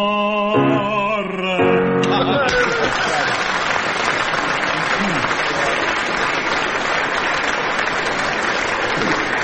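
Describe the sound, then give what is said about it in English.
A few held, sung notes in Italian give way after about two seconds to loud, sustained applause in the middle of the performance, a dense steady clatter of many hands that keeps going to the end. “Even Pavarotti doesn't stop for a bit of applause in the middle.”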